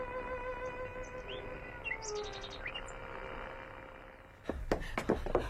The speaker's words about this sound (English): It's a marvel, sir. Hearing the bird. Why, it even took my breath away.